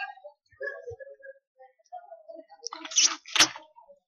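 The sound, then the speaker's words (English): Water is poured into a glass, a short splashy gurgle lasting about a second after some quieter faint sounds, ending with a brief louder gush. “Let me have some water here.”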